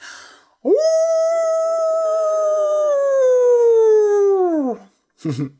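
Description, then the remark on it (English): A person imitates a wolf howl: one long, loud, wavering cry that swoops up, holds for about four seconds and slowly sinks, followed by a brief breathy sound. “Actually, I am very good at making wolf howls. Listen.”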